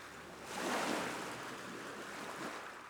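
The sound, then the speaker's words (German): Ocean waves wash onto a beach in a broad, steady roar that swells around the first second and then settles into a continuous hissing wash, with no voices present. “Kraftvoll und mit gleichmäßigem Rauschen laufen die Wellen an den Strand und fließen wieder zurück ins Meer.”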